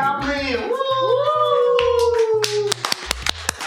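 Six people in a studio clap their hands in a loose, uneven burst of sharp claps, mostly toward the end, while drawn-out gliding vocal sounds carry over the first part.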